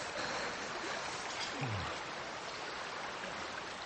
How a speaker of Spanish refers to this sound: Pero en aquel tramo, aunque el río era muy cristalino, también era muy profundo. El agua continuaba fluyendo tan alegremente como antes, ocultando el hacha.